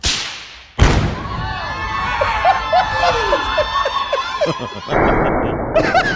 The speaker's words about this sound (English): Here's the amazing thing. This explosion was felt 15 miles away. Here's the blowing up of a wedding dress following a divorce.